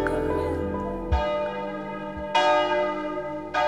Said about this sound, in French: D'où viennent ces cloches qui sonnent ?